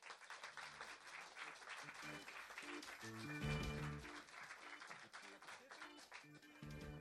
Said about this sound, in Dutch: Een hartelijk applaus voor onze speeddaters.